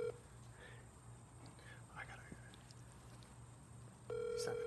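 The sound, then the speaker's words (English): An outgoing phone call that goes unanswered: a steady, mid-pitched ring tone sounds briefly at the start, then a long hush of faint whispery noise, then the tone returns, louder, at the end. “No, he won't pick up.”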